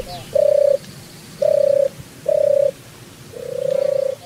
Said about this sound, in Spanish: Paloma. Sí, paloma. Inevitable.